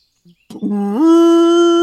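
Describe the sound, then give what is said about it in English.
A loud screech from a giant elk: a brief click, then a drawn-out, horn-like call that starts low, slides upward in pitch and holds a steady, rich tone until the end. “The giant elk looks at you with its piercing gaze and lets out a loud screech.”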